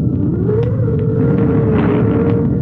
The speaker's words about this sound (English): It is a dark and stormy night. Outside, the wind is howling and whistling.